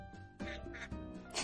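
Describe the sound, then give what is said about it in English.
A voice imitates a duck with a few nasal, buzzy quacks in quick succession, fairly loud, with a faint background hum between them. “Quack, quack.”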